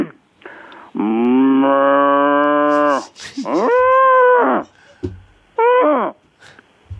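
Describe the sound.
A man imitates a cow with three loud moos: a long drawn-out low call, a shorter rising-and-falling one, then a brief final moo.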